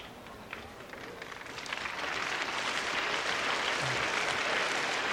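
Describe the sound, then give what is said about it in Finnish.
An audience claps steadily for a youth choir from Pohjanmaa (Ostrobothnia), the applause swelling after the first couple of seconds into a dense, sustained wash of many hands that holds loud to the end. “Nämä aplodit varmasti kertovat, että teidän kuoronne myöskin on varmasti oikeaa tarkoitusta varten syntynyt.”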